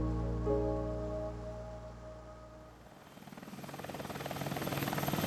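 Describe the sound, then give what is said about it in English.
A loud Dauphin helicopter flying barely above a jungle canopy: a steady engine whine with strong droning tones, then the rapid rhythmic thump of rotor blades takes over and swells as it passes low overhead. No voices. “The jungle flew by in a solid green carpet beneath the Dauphine helicopter. The aircraft roared barely inches above the jungle canopy.”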